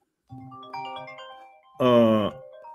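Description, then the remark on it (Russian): A mobile phone ringtone plays a short electronic melody of steady, sustained tones as a friend calls during a live broadcast, then a brief louder, brighter burst near the end, with no one talking. “Друг звонит, важный.”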